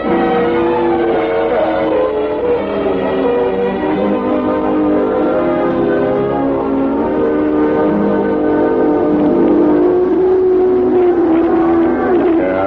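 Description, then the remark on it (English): A car engine roars loudly and steadily, its pitch climbing toward the end as it revs and pulls away, with no talking over it. “He must have slipped out the back way and dropped into one of those cars.”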